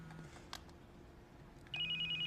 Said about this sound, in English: phone rings as he plays a video game.